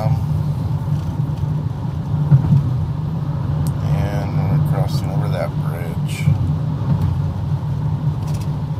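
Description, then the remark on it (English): A car drives steadily over a bridge and then another small bridge, its low road rumble and engine drone continuous, as heard from inside, with a person talking over the noise partway through. “And now we've crossed over the bridge and cross over this other little bridge here, which is a site of many accidents.”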